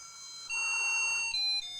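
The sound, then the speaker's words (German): A water appliance's one-tone sound chip plays a thin electronic beeping melody after water is filled in, one tone at a time, stepping between a few pitches in a simple tune, fairly loud and with no talking. “sondern es ist auch noch so eine furchtbare Ein-Ton-Soundchip-Version.”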